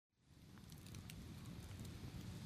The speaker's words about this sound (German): Das Lagerfeuer knistert.